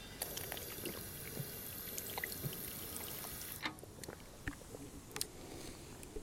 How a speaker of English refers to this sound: You ever listened to a podcast before? Where somebody takes a drink of water from a public fountain? Didn't fucking think so.